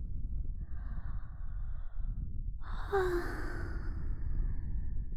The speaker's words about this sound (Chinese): 打哈欠代表困倦了，而睡觉是十分舒服的事情，所以当少爷听到我的哈欠声会变得怎么样呢？